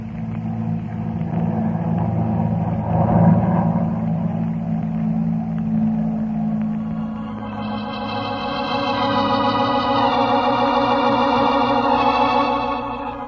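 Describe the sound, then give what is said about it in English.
A steady, loud airplane engine drone from an aircraft that cannot be seen hums on its own, its low rumble joined halfway through by higher whining tones that hold and shift slightly in pitch. No one speaks. “But the expression on his face and the sound of the airplane that couldn't be seen convinced me of his sincerity.”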